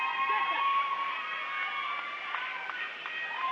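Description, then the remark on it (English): A home crowd at a basketball game cheers in a steady, sustained roar, with shrill whistles cutting through at moments, as two substitute players check into the game. “Or maybe it was Willie Kackmeister that they were whistling for. But the Ainsworth faithful, happy when both those two young men came into the game.”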